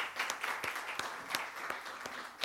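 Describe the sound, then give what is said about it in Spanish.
A church audience claps for the Lord for everyone attending at the start of the day's sermon, a dense wash of applause with sharper individual claps popping out at a loose, irregular rhythm, steady and moderately loud with no talking. “Y vamos a dar palmas al Señor por todas las personas que nos acompañan el día de hoy.”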